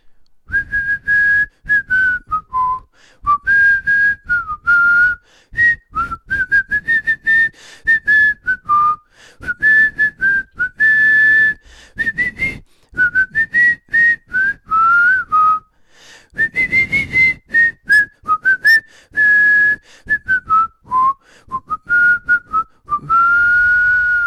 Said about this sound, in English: There we go. You get that one? Yeah. Great song. Iconic. Well whistled. One of the best theme songs.